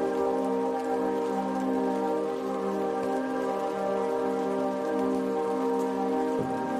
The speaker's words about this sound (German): Hörst du das leise Rieseln, das wie sanfter Regen klingt? Stell dir vor, dass der See unter dir sein Wasser auf die Erde regnen lässt.